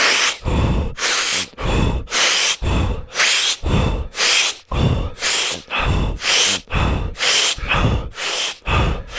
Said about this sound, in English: Suck in the air, let it go. Suck it in, let it go. That's it. 5 more. 4, 3, 2. This time, fully in, all the way in.